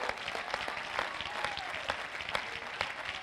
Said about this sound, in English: Oh, let's clap our hands to Him and bless His name.